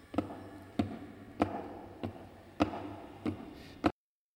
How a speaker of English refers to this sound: And there is in the passageway below a pounding of heavy boxes being set down. Boxes shaped like coffins. And I know what they hold. The boxes are filled with holy earth from the chapel beneath the castle. The last box is being nailed down.